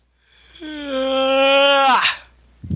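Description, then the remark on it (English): A long, drawn-out voiced yawn: a steady, slightly falling moan that swells louder, then breaks into a breathy, sighing release with a dropping pitch. A short rustle follows at the end. “Most exciting yawn in history.”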